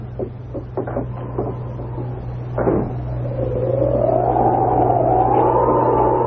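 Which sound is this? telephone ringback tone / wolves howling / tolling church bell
wolves howling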